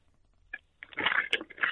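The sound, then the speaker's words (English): Crinkly rustling of a paper bag worn over a person's head as a blindfold: a brief crackle, a pause, then a dense, bright burst of crumpling and scrunching that swells and continues to the end, with no voices. “I couldn't find a blindfold, so I've got a paper bag on my head.”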